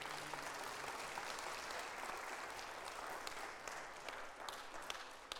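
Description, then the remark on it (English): A large audience at a worship service applauds steadily for several seconds, a dense wash of many overlapping claps at constant loudness, with no voices rising above it. “Father, our applause is for you.”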